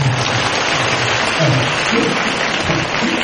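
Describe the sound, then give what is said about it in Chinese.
An audience breaks into steady applause, many hands clapping in a dense, continuous patter at an even loudness for a few seconds, with no voices standing out above it. “其实呢这些方法你们鼓掌啊， 不是，我说你们鼓掌啊，鼓得太早了。”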